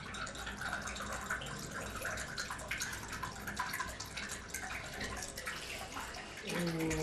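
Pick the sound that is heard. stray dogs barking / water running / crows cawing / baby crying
water running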